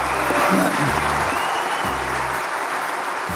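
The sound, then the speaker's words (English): A sustained standing ovation from a large crowd at a company gathering for its chief executive officer stepping down at year end, a dense steady roar of many hands clapping at once with no pauses, loud and continuous throughout. “And the standing ovation could have gone on for I don't know how long.”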